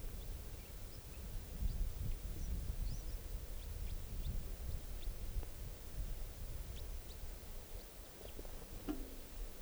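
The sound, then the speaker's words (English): Faint, scattered high-pitched calls and song of a wild bird come and go over a steady low rumble of wind-like background noise, with no clear rhythm to the calls. “And this is song now, that wild bird calls there.”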